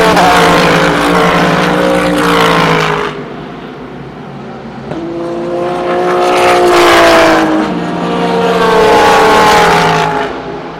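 Several loud GT4 race cars, including an Audi and Aston Martins, roar past one after another on the VIR racetrack, engines rising and falling in pitch as they approach, shift gears and fade, with no talking.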